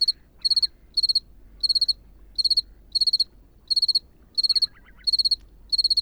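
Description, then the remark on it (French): A two-spotted cricket (Gryllus bimaculatus), with microphones placed near it, chirps in steady, evenly spaced pulsed bursts, about ten in a row, over a soft low ambient hum with faint calls in the background, beside lagoons along a sea dike, hours before 1 November, with a cool north wind. “Et là, j'ai placé mes microphones près d'un grillon, le grillon de Provence, Grillus bimaculatus.”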